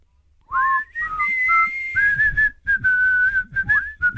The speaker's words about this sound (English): That song? Had you not heard it before? Don't think so. I reckon you'd recognize the whistling chorus.